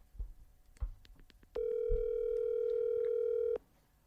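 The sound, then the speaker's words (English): A single phone ringback tone, a steady mid-pitched electronic drone lasting about two seconds, preceded by a few soft thumps and clicks, then quiet. “See what ring he answers.”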